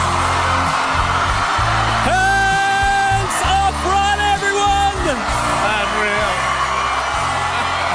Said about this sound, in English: We cross now to Melbourne Park's Margaret Court Arena with Hamish and Andy and 6,000 screaming rock fans